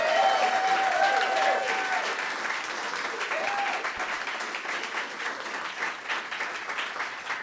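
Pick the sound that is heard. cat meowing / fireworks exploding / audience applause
audience applause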